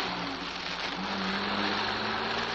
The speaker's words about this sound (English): The sound of the rain, the drone of the motor, vanished somewhere in my senses.